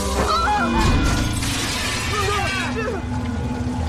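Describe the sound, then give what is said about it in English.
A skylight's wired glass shatters and crunches loudly as a fallen branch smashes it, a dense, sustained crash with creaking, bending sounds of the wire and broken glass under the branch's weight, and muffled voice-like tones layered throughout. “Skylight smashing. The wire and the broken glass bending under the weight of the fallen branch.”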